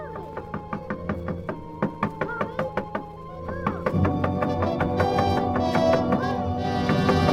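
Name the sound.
knocking on a door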